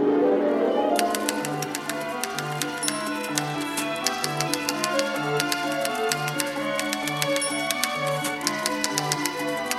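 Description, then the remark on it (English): Rapid typewriter clacking taps out an irregular rhythm over a steady orchestral accompaniment, the sharp mechanical clicks sitting clearly on top of pulsing low strings. “Pieces like Erik Satie's Witty Parade from 1917, with an orchestra that includes a train whistle and a typewriter.”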